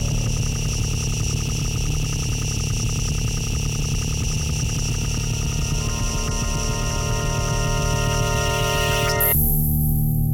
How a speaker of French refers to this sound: Descente du métro. Souterrain. Rythme.